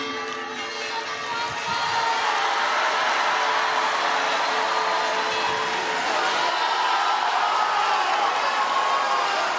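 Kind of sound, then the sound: crowd, crowd of pilgrims applauding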